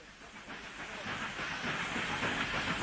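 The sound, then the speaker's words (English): A train rolls steadily along the rails, a continuous broad rumble with hissing texture that grows slightly louder over the few seconds. No voices are heard. “And it was certainly no accident that the American train left Ekaterinburg only a few minutes after the assault.”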